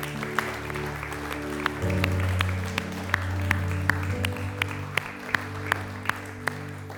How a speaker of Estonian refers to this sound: Anname Jeesusele väga aplausi.